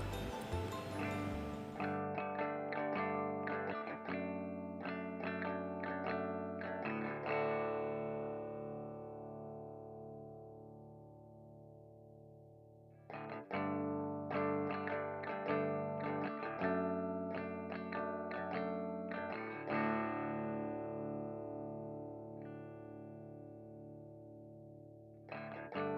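A heavily distorted electric guitar plays a loud, layered rock intro of a 1995 song, with thick sustained chords and chorus-like shimmer, building in two waves with a brief dip midway; no voices.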